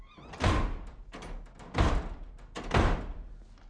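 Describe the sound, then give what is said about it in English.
A door slams shut hard three times in a row, slammed by someone who has stormed upstairs, each heavy bang booming with a brief rumble before the next. No one speaks. “Slam the door.”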